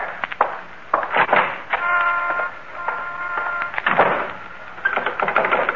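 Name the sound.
front door being locked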